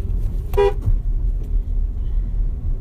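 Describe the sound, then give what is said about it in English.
A single short car horn toot sounds over a steady low rumble of engine and road noise from inside a truck moving in traffic in Texas, as someone nearly jumps out right in front of it. “Sorry, I almost had an asshole jump right in front of me, which is not okay”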